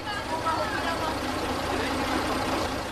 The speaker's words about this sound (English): Yet the creaky old Karosa bus heading towards Krkonoše or Giant Mountains is almost full when I arrive at the bus station.